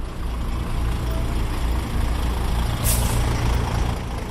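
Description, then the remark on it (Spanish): A heavy truck engine rumbles steadily, low and continuous, with a short sharp hiss of air brakes partway through, as trucks cross a bridge over the Rambla del Poyo in Paiporta to unload mud and sludge cleared from the sewers. No one speaks. “Un mes después, uno de esos puentes recibe decenas de camiones al día.”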